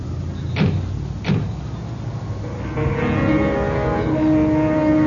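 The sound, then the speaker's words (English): Two solid taxi-door thunks land close together, then the engine of a yellow 1938 DeSoto taxi hums to life and steadily pulls away, its droning tone rising and holding as it drives off toward the Biltmore Hotel. “From the back of the yellow 1938 DeSoto, I watch the city jiggle by.”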